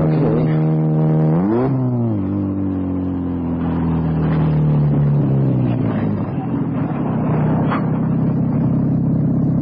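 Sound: car engine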